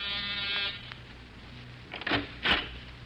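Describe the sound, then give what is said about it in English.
An electric call buzzer, rung to summon a servant, gives one harsh, steady buzz lasting well under a second, then cuts off, leaving quiet broken by a couple of short clattering bumps. “You rang, sir?”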